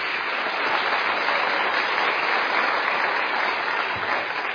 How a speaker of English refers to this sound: Thank you very much, boys and girls. I think you need to give them a boisterous round of applause. Thank you so much.